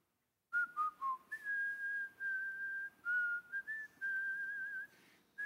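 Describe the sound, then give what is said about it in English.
A person whistles the hymn Blessed Assurance alone, a slow, steady melody of clear sustained tones gliding between notes with brief breaths in between, moderately loud. “And he said, he's whistling Blessed Assurance.”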